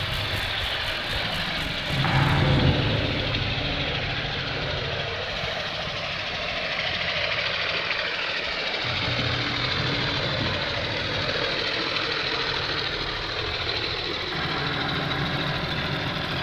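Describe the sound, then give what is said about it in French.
A motorboat engine drones steadily, heard underwater in a canal, muffled, humming continuously for the whole stretch with a lawnmower-like rattle and no talking. “Voilà, on entend très bien le moteur. Enfin, ça fait tondeuse.”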